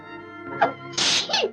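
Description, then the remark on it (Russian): A loud sneeze: a short sharp intake of breath, then a bright, hissing two-part burst, heard on its own with no talking. “Будь здорова.”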